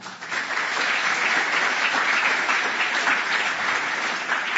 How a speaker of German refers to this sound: Er war, schaut ihn euch an, kleiner Applaus für ihn.